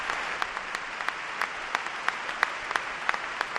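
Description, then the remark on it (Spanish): A large crowd at the Carpena arena applauding steadily at Rafa's words, a dense wash of clapping with sharper individual claps popping out every fraction of a second, sustained throughout with no voices. “El Carpena continuamente rompiendo en aplausos con cada palabra de Rafa.”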